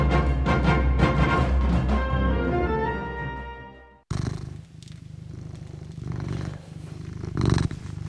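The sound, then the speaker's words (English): A short musical jingle fades out, then a domestic cat named Morrissey purrs in the studio of CFRC 101.9 FM in Kingston, a steady low rumble with a soft rhythmic pulse continuing on its own. “you're with me and my cat, Morrissey, the good-looking and pleasant to be around.”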